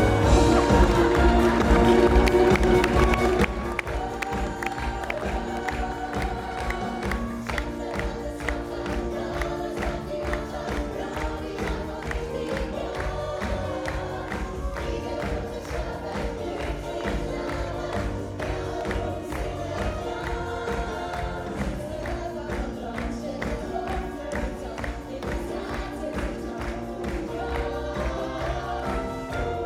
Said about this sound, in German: Das Knuschen von der barmherzigen Jungfrau begrüßt demütig der Bischof von Rom, der Nachfolger Petri, der Stellvertreter Christi auf Erden, unser Pontifex Maximus, ein himmlischer Applaus für seine Heiligkeit, Papst Johannes Paul II.